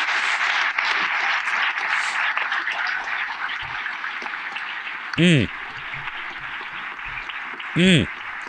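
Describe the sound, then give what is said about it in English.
A crowd applauds steadily throughout, a dense, even crackle of many hands clapping, punctuated twice by short, loud whooping cheers that swoop up and down in pitch. “I think it's just more clapping, but I want to let it play out.”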